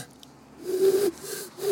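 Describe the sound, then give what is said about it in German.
A person does a breathy, low vocal imitation of an eagle owl hooting: one drawn-out hoot followed by a couple of shorter, softer ones, with no other talking. “Ah, warte, du wolltest den Uhu hören.”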